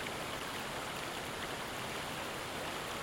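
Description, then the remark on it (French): A waterfall plunges in a steep, dizzying drop, cascading in a steady, unbroken roar of rushing water, full and even throughout, with no voices or other sounds. “L'eau dégringole dans une chute vertigineuse.”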